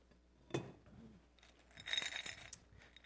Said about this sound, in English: Glass jar I stole out of the downstairs that had all these neat little beads, okay?